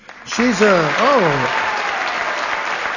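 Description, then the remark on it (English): Steady applause from an audience at a taping of the word game show Says You at St. Mary's Episcopal School in Memphis, Tennessee, fills the whole stretch, a dense wash of clapping, with a single voice whooping or calling out over it at the start. “Applause for Tennessee, no doubt.”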